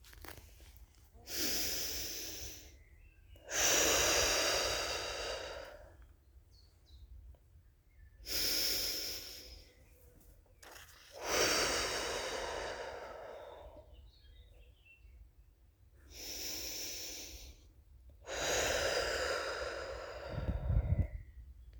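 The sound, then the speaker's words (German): Three slow, deep breaths, each a long airy inhale followed by a fuller exhale, with quiet pauses between them and no talking, taken during a contact-breathing exercise with the left hand resting on the heart and chest area and the right hand above the navel. “Nehmen Sie 3 tiefe Atemzüge mit der Einatmung und 3 tiefe Ausatmenzüge.”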